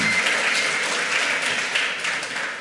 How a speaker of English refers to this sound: But, yes, a round of applause for all the ham radio operators.